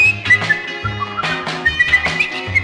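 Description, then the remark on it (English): A bright, clear whistled tune hops through a short cheerful melody, each note rising and falling over a steady musical backing. No one speaks. “So he come flipping and skipping through the woods, happily whistling a little song.”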